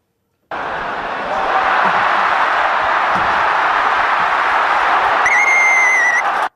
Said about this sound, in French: Un coup de sifflet, vous savez ce que ça veut dire? Eh bien, c'est la mi-temps des informés.